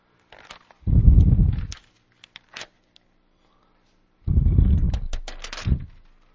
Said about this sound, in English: As you can see, I'm still having trouble getting these pages apart in this new one.